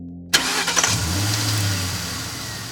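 A car engine cranks and fires up abruptly, then settles into a steady low rumble as it runs, fairly loud with no voices.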